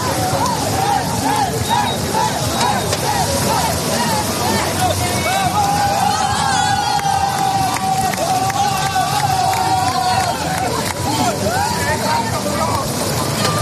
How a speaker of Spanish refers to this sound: Es el griterío del equipo olímpico español. Sí, sí, impresionante, ¿eh? Se han metido todos al agua.